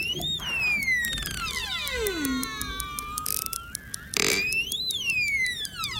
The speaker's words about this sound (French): Alors là, c'est pas des dauphins, mais presque. Ce sont des globicéphales qu'il a enregistrés en mars.